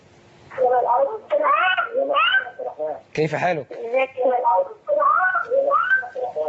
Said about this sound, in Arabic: يعني توطي صوت التلفاز وتخليك معنا على التليفون.